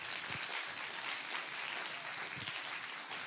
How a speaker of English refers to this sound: So let's give him a great round of applause.